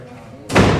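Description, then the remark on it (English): A door shuts with one loud thud that rings out briefly. Before it, only quiet room sound and a faint murmur of a voice can be heard. “Close the door, please.”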